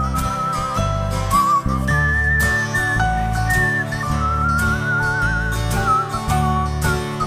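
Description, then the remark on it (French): A clear, melodic whistled tune rises and falls over a full instrumental backing, the pure piping notes gliding and held in a bright, continuous phrase throughout. “On siffle!”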